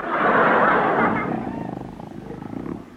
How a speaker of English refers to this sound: He snores on his back, he snores on his side, he snores on his tummy.